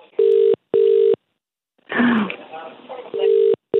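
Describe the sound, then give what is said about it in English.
A telephone ringing tone of an outgoing call being placed sounds in a steady double beat, two short buzzing rings, then a pause filled by a brief voice or cough, before the ringing starts again. “So you'll hear it ringing, and then just speak.”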